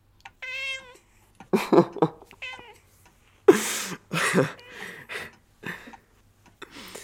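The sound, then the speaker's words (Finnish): A cat meows several times, starting with clear drawn-out mews and turning into rougher, noisier yowls with short pauses between them; no one talks. “Tota hotaa kannattaa varoa. Se on kissaksi aika traumatisoitunut.”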